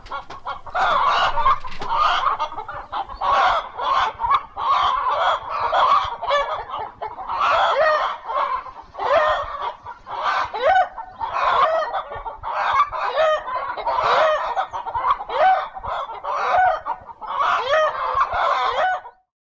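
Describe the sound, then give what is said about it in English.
A flock of chickens clucks continuously, overlapping bursts of busy, agitated squawks and cackles filling the whole stretch with no talking. “How are these chickens feeling?”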